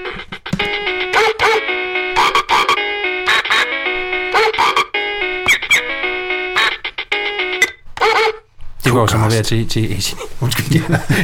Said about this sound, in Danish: Men der skal nok komme hunde ind over. Skal det være rock? Ja, sådan en god gang pig rock.